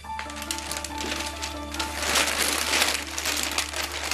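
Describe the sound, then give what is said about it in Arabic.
A plastic bag crinkles and rustles steadily for several seconds, a dense crackling as it is pulled open, with a low steady hum beneath and no one speaking. “امي تفضلي، هذا الكيس من عند الخالة فاطمة، اعطتني اياه وراحت.”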